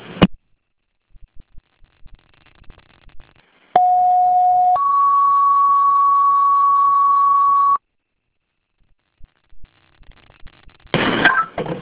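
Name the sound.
fire dispatch alert tones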